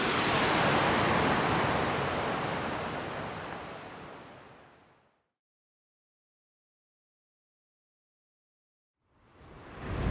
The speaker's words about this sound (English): I'm back at Chicken Point. Pretty windy today.